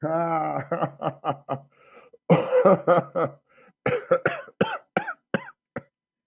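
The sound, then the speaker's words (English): A close, loud run of coughing and throat clearing, with a rapid series of short voiced bursts, a harsh rasping hack in the middle, then more choppy coughs trailing off. “See, you're killing the man, literally. Yeah. One cough at a time.”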